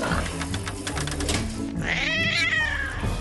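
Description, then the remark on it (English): A cat, Princess Flufferina, lets out one drawn-out, wavering meow midway through, fairly loud, over a steady background of mechanical clatter and low droning hum, at a pet-grooming machine with a conveyor belt. “It's just a cat, not a mountain lion.”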